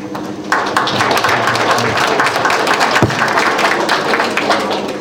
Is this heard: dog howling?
no